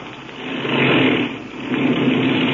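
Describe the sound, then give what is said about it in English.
A small airplane engine runs steadily while the plane taxis, a loud droning hum that swells briefly, dips for a moment, then holds again, with no voices over it. “Then I'll cut the engine.”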